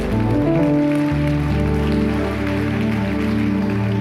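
audience hand clapping

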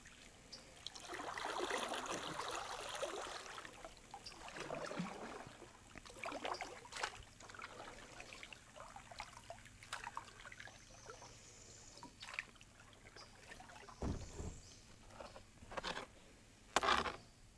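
kayak paddling through water

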